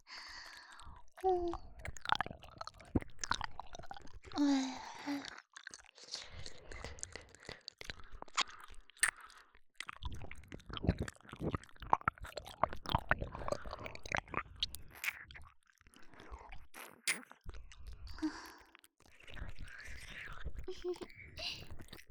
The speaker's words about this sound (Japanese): 先輩のこと好きな私が勝手にペロペロしてるだけなんですよ。よかったら、はぁはぁ言ってくださいね。